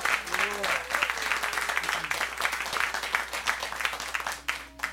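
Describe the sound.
A studio audience in Studio 1A at KUTX applauds a band after a live music performance, a dense patter of many hands clapping at an even, moderately loud level for several seconds, with faint cheers and voices mixed in.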